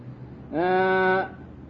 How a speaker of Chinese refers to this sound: 哑阳僧就是好像那个羊啊不会讲，连那个羊叫他都不会叫，那个羊会咩咩啊他都不会叫的啊